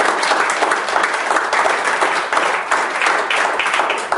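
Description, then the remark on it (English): Sustained audience applause, a dense, steady wash of many hands clapping at full volume for the whole stretch, with no talking over it. “Give all the applause.”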